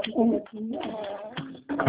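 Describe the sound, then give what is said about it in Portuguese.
A pigeon coos in low, throaty, warbling phrases, several in a row across two seconds with brief breaks, moderately loud, with no one talking over it. “Eita, pomba!”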